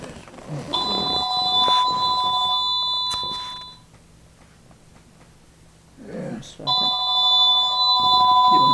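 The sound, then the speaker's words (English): A telephone rings in two long electronic bursts, steady harmonic tones separated by a pause of near-silence, fairly loud, with faint voices murmuring beneath; a friend is calling and the call is left unanswered. “And I don't know where that phone is.”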